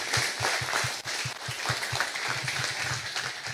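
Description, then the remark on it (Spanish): A crowd claps for the Lord steadily in a fast, even rhythm, the beats blending into a continuous wash of applause with a dense, bright hiss and no talking. “Más fuerte ese aplauso para el Señor.”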